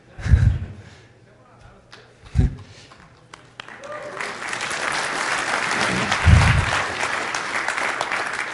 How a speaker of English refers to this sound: Thank you. Sympathy applause is always good.